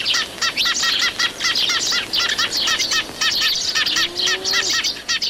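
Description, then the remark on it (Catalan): A steady stream of many short, bright chirps from a group of Eurasian tree sparrows (Passer montanus), overlapping and busy throughout, with a brief lower whistle near the end. “Pardal xerrec, Passer montanus.”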